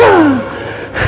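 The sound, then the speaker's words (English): A person imitates the wheeze they used to have when they smoked cigarettes: one strained, breathy inhale with a thin whistling tone that slides downward and fades, followed by a short breathy rasp. It is fairly loud, with no speech. “I used to wheeze.”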